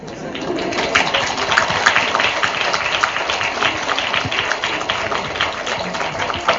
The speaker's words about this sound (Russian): И вот эти аплодисменты ваши напомнили мне ту же атмосферу, в которой встречали меня студенты университета в Соединенных Штатах Америки.